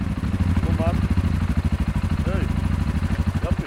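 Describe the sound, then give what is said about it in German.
Two yellow four-stroke quads parked at the roadside idle behind a bend in the Bosnian mountains, a steady, rapid low chugging throb, loud and continuous throughout, with a few faint higher chirps or calls drifting above the rumble. “Dann Motorengeräusche hinter der nächsten Kurve. Viertakter im Leerlauf.”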